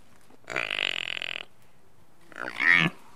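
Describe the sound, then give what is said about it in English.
A four-day-old water buffalo calf gives two rough, grunting calls: a longer raspy bellow, a short pause, then a briefer, higher-pitched squealing grunt. No one speaks. “It's a combination of what a pig, a horse, and an elephant make.”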